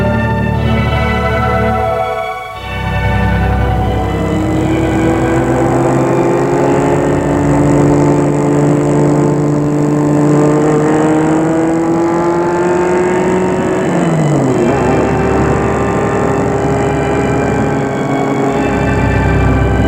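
A car engine drones steadily as the vehicle drives people to the headquarters, its pitch slowly climbing as it accelerates, then dropping briefly with a gear change before carrying on, loud, with no voices.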